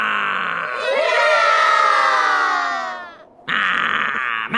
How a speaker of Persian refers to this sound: حالا همه گی بگید هورا.